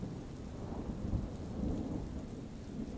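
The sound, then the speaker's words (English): Steady rain hisses throughout while low thunder rumbles continuously underneath, swelling slightly in the middle; a calm, enveloping storm with no voices. “Enjoy these allegedly true scary bedtime stories with the serene sounds of a thunderstorm.”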